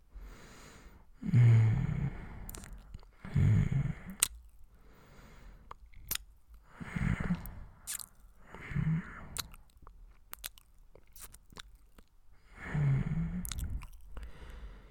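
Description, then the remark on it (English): Wet kissing sounds in about five irregular bursts, soft smacks and squishy lip noises with low murmuring hums, separated by brief quiet pauses. “Kiss me.”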